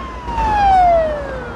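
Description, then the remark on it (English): A police car siren whooshes by on a busy road, blue lights flashing, its steady wail swelling loud and then sliding down in pitch as the car speeds past and pulls away over faint road noise. “A police car speeds the other way, briefly illuminating the street with blue flashing lights.”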